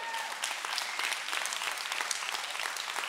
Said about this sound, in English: Now you clap. You keep clapping when those 800 people come this fall and they take your seats and your parking spots.